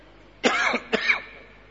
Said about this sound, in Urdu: دیکھیں فائدہ کتنا ہو گیا تھا کھانسی میں. کوئی ایسی چیز کھائی پی نہیں, اچانک کھانسی شروع ہو گئی. یا تو شاید اوپر صفائی ہوئی ہے تو اس کی ڈسٹنگ وغیرہ کی وجہ سے.